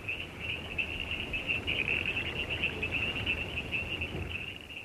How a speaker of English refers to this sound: Listen carefully, and you may pick up the hum of the cicadas. The screech of bird life. Or the singing tones of tree frogs.